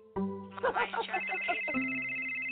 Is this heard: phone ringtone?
yes